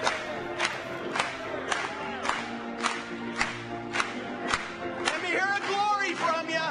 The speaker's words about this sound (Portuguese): Vamos bater palmas para ele hoje.